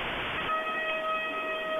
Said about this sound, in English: It's just testing. It's just testing to make sure that the alarm's working.